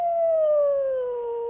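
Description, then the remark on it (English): A single wolf howls in one long, steady note that slowly slides downward in pitch, sounding clear with nothing else audible. “Hear the other one answering way far away? And then that one's calling back.”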